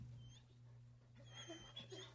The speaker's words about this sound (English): Can you put the barking through the speakers?